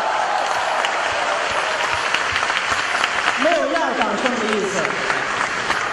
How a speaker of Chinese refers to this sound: 我们俩一上台呀，观众报以热烈的掌声。 对。 实话实说啊，我们愧不敢当。 对。 因为这个掌声太热烈了。